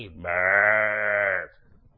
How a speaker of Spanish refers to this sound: A Moisés, ¿quién le dio las ovejas? Como era pastor de esas ovejitas lanudas, tan lindas y tan bonitas.